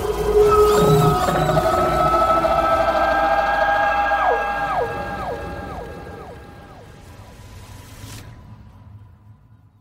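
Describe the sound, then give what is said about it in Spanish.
A huge animal, risen on two legs, howls at the moon into the night: several long, loud howls overlap in drawn-out wavering tones, each sliding downward at its end, before the chorus cuts off and leaves a faint hiss. No one speaks. “Entonces, el enorme animal se levantó en dos patas y mirando hacia la luna, su hermosa Jmetic aulló hacia la noche, helando la sangre de toda criatura viva.”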